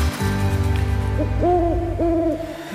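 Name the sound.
owl hooting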